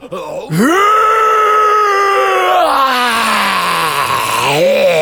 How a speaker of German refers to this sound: In diesem Augenblick dringt ein fürchterliches Gebrüll aus dem Iglu.